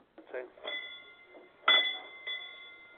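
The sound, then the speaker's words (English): A small service bell by a shop door is struck about three times to test its frequency, its bright ringing tones lingering between strikes, the middle ring loudest, with a brief murmur of voice near the start. “the bell by the door that customers ring when they have good service”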